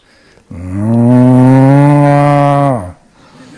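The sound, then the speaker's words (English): A voice imitates the moo of a happy cow, a long, drawn-out single sustained low call lasting about two seconds, loud, with steady tone that gently slides down at the end. “So when cows are happy, they have a particular type of moo.”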